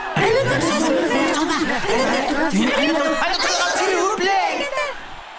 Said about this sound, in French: Il y a la foule là-bas.